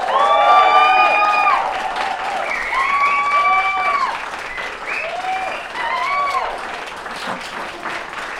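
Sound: audience applauding and cheering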